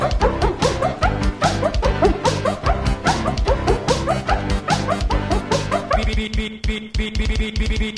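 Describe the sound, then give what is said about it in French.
Small dogs bark and yip rapidly in a steady, almost musical rhythm, loud throughout, the sharp yaps piling densely together before thinning slightly near the end. “des toutous gentils comme tout, des petits chiens bien comme il faut, des roquets pas fous du tout”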